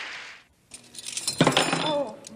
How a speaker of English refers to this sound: As Edith sets the table, she fumbles with the silverware.